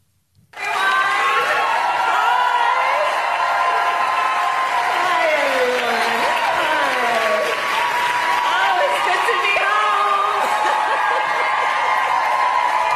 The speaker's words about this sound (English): So this is when she first takes the stage last night, and she's greeted by this enormous round of applause, and she's just soaking it all in and cackling, and it's a wonderful clip.